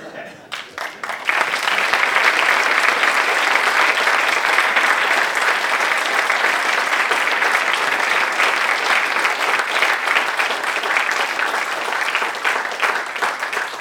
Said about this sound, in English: You're going to have to clap again. Not yet.